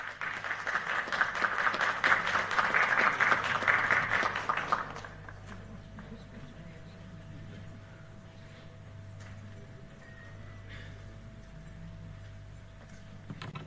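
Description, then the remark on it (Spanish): Loud, dense applause from a crowd, a crackling wash of many hands for about five seconds, then it stops abruptly, leaving only faint background noise with a low steady hum and tone. “Fuertes los aplausos.”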